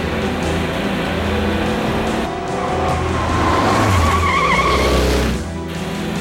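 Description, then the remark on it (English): Roaring car engines race in a chase through an alleyway, with tires squealing and skidding loudly midway through as a pursuing car smashes through a pile of garbage; a dense, continuous rumble with no talking. “The Chechens smash through a pile of garbage and continue the chase. They exit an alleyway in close pursuit.”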